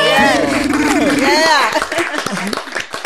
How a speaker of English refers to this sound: Clap it up.